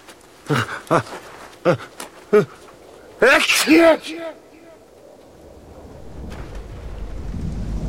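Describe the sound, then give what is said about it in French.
An avalanche coming down from above at a mountain pass: a deep, roaring rumble swells steadily over the last few seconds, growing louder. It follows a string of short voiced bursts and a brief exclamation. “Là-haut, une avalanche.”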